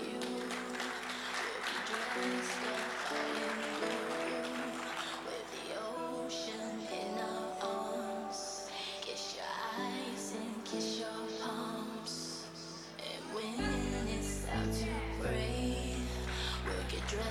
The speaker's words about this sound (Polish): Jeszcze raz wielkie brawa! Dziękujemy bardzo.